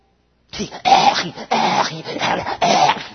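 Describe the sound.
A man imitates a dog choking as it strains against its leash while being walked by its owner: a run of harsh, raspy gagging wheezes in about four strained bursts, loud, with no other sounds around them.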